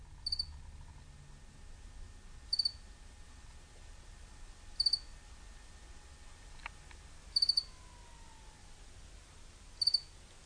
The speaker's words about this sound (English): Nothing there. Where did those crickets come from?